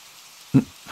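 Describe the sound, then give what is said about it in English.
Steady rain hisses softly throughout, a constant wash of falling drops, with one brief low thump near the middle and another faint patter of heavier drops toward the end. “I'm fine, okay? It's just the rain.”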